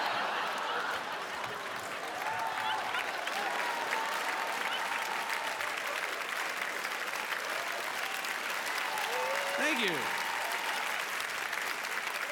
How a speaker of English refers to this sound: Thank you for applauding my sadness. That's awesome.